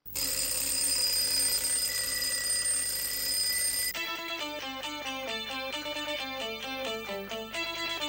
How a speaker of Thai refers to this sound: และหากว่ากลิ่นของนาฬิกาปลุกรุ่นใหม่นี้ยังไม่สามารถทำให้คุณตื่นได้สำนักข่าวบลูมเบิร์กบอกว่านาฬิการุ่นนี้จะปรับโหมดมาปลุกด้วยเสียงปกติแทนครับ